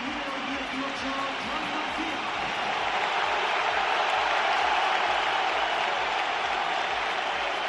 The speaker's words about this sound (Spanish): Os voy a decir una cosa, los que estáis escuchando o viendo por la tele, en el campo se ve que hay muchos más aplausos aunque suenen pitos. Joan García y aplausos.